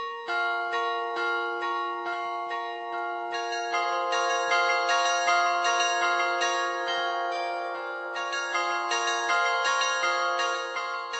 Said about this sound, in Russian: Вряд ли найдется человек, которого оставит равнодушным колокольный звон. А в чем тайна колокольного звона? И, собственно говоря, из чего отливают колокола?